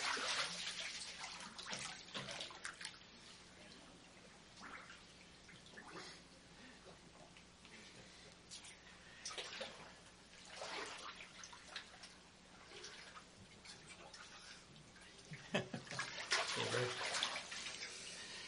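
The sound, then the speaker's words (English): Water sloshes and splashes in a baptismal pool during a church baptism, in irregular bursts, growing louder and busier toward the end, with faint voices murmuring underneath. “your grandkids are telling me that you're going to pull me under the water.”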